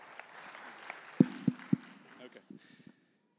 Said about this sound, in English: Let's give him a hand of applause. I know he didn't want that, but honestly, thank you.